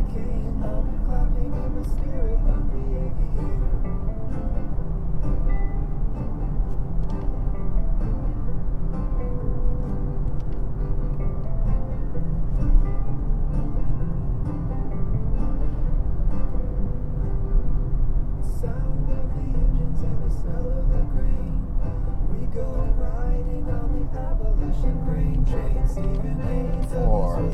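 A big car's engine drones steadily from inside the cabin, with a continuous low rumble and road noise that rises and falls slightly as it drives slowly through a roundabout and shifts down through the gears into second gear.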